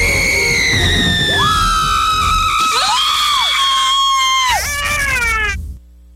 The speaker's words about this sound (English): That last scream belongs to the woman on the phone with us right now.